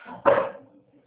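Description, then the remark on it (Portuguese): A single sharp dog bark bursts out after a quiet moment, then quickly fades away, heard over a phone call without any talking. “Tem um cachorro latino?”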